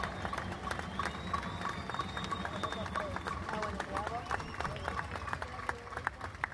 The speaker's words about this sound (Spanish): Compañeros y compañeras, seguimos flojos con el aplauso, pero no importa, le vamos a dar tiempo.